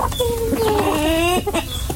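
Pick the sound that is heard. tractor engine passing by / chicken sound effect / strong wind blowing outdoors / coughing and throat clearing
chicken sound effect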